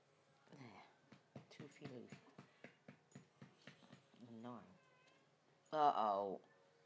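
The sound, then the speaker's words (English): At night, a cat wanting to go out makes a run of quick, rhythmic chirping pulses, then lets out two drawn-out meows, the second louder and more insistent. “You can be quiet because you're not going out this time of night, not with the cat killer on the loose.”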